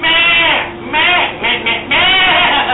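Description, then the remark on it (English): A person imitates a bleating sheep: about four loud, quavering bleats in quick succession, each with a shaky, nasal wobble. “This is your sheep. Meh! Meh! Can you tell the difference?”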